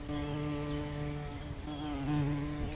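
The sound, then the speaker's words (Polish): A buzzing insect hovers close by, its steady droning hum rising and dipping slightly in pitch as it moves around for a few seconds, with no voices. “Słyszysz owady, które gdzieś brzęczą.”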